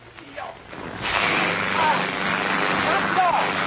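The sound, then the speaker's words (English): A model airplane engine, its tank filled by eyedropper, switched on and started by spinning the propeller by hand, sputters briefly, then catches after about a second and settles into a loud, steady, raspy buzz. A couple of faint rising whistle-like tones cut through the drone. “Three, hold plane in left hand and spin propeller with right hand.”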